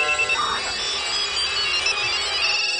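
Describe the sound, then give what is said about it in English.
A phone line rings out on an outgoing call, a steady electronic ringing tone that holds fairly loud and unbroken for a few seconds, with no one talking over it. “Let me just get to the future phone, if you would.”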